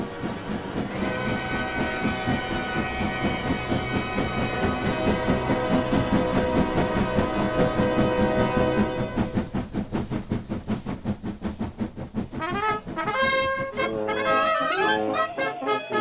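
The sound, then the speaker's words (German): A train heading toward Switzerland on the morning of 10 December 1865 rolls along the tracks with a steady rumble and hiss, then a rhythmic clickety-clack of wheels over rail joints builds, with tonal whistle-like squeals near the end. No voices. “Am Morgen des 10. Dezember 1865 bestieg er den Zug in Richtung Schweiz.”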